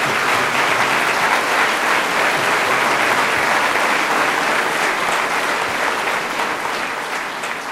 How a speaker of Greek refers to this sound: Γι' αυτό σας παρακαλώ πάρα πολύ, για όλα τα παιδιά, αλλά ειδικά για τα παιδιά που έκαναν τον κόπο και ήλθαν σήμερα εδώ από τη Θεσσαλονίκη, ένα πολύ ζεστό χειροκρότημα.